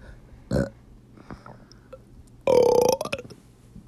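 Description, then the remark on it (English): A short burp followed by a longer, loud, gravelly belch, with quiet background between them and no talking. “I can't burp.”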